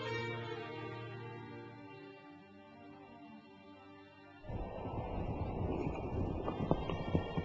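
A sustained, droning tone gives way partway through to a horse being ridden in a rush toward Medina, its rapid galloping hoofbeats mixed with a rushing, wind-like noise until the end.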